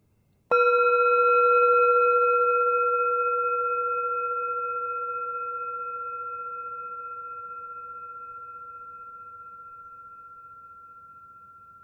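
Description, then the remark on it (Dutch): A single meditation bell is struck once to begin a ten-minute sound meditation, giving a clear, bright tone with shimmering overtones that hums on and fades slowly over about eleven seconds, with no voices. “Als je de bel hoort, begint de meditatie.”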